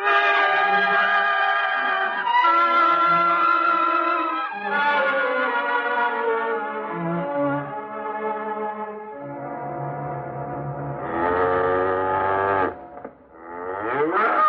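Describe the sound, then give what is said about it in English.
A cow moos loudly over and over in long, drawn-out calls running almost back to back, ending with a brief rising bellow. No one speaks. “I'll try to milk the cow tomorrow, some other time.”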